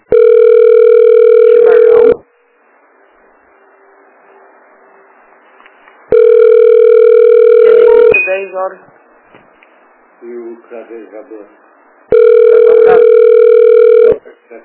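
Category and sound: signal or alarm, telephone ringing tone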